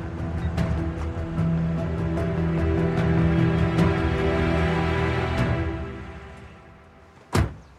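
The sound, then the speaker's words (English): A truck engine hums steadily and then cuts off, followed by a short quiet and a single solid truck door thunk near the end as a woman gets out of her truck at a gray brick mansion. No one speaks. “Emily gets out of her truck and approaches a gray brick mansion.”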